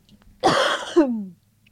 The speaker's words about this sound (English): go ahead and cough it out. I know you're sick.